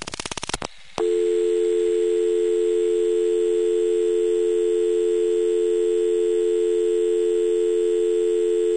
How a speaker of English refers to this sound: Now, the dial tone length was short, but maybe I just talked it off last time.